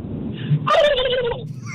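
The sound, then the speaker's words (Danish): A caller on a radio phone-in animal guessing game imitates a turkey gobble: one loud, fluttering, warbling burst of rapid throaty pitch wobbles lasting under a second, preceded and followed by quieter background hum. “En kalkun! Ja, en kalkun. Det er det nemlig.”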